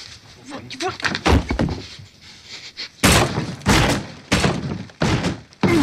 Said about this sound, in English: That's him punching a hole through the wall. I remember. That scared me a little.